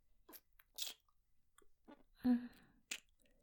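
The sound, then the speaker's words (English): A series of soft, wet kissing smacks, about five of them spaced irregularly, with a brief hummed murmur in the middle and no talking; kisses being placed on someone's face. “I'm out of places to kiss you on your face.”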